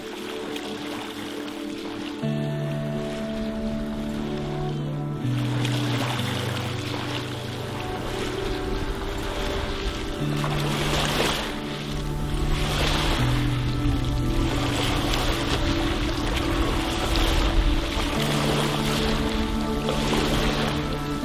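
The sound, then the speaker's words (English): Ocean waves wash onto a beach at the west end of the island of Bermuda, past a plot of land called Convict Cemetery, in a steady, rushing roar that swells every few seconds, with a low sustained tonal hum layered underneath and no voices. “We're here at the west end of the beautiful island of Bermuda, and right past this plot of land called Convict Cemetery is a very unique beach.”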